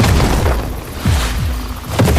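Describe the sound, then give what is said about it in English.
Heavy cannon fire from Lincoln's army booms repeatedly, heard from a swamp, several deep blasts spaced about a second apart, loud and rumbling with a dense low-end roar filling the gaps between shots. “Follow the sound of Lincoln's cannons.”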